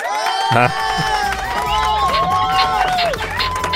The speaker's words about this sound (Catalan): Ole. Són els aplaudiments.